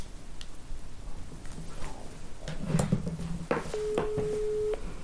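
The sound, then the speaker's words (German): Clicks and handling noises lead into one steady, mid-pitched ringback tone lasting about a second: the ringing heard on an outgoing phone call to Ruth Moschner, with no one speaking. “Wir rufen sie jetzt einfach mal an.”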